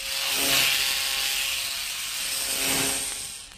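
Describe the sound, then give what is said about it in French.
A locksmith's hand file rasps against metal in long, steady strokes, a harsh scraping hiss that swells twice, fairly loud, with no voices. “Il y a un siècle, l'artisan serrurier travaillait avec sa lime.”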